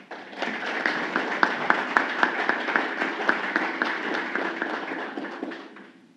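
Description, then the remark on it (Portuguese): Steady applause from an audience at an honours ceremony of the Araguari city council as an honoree receives tributes, many hands clapping at once in a dense, rapid rhythm with some sharper individual claps standing out, sustained for several seconds before tapering off. “Convidamos o excelentíssimo senhor Alain Baena Bertola dos Santos para se posicionar e receber as homenagens.”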